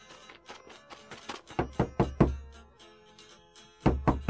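Urgent knocking on a friend's door by two friends: a few soft raps, then a burst of loud, heavy knocks, a pause, and another quick series of three, with a faint steady tone underneath.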